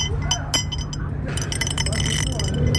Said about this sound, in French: La prière du phallus. C'est un grelot en forme. Ah, c'est joli. Que vous entendez là?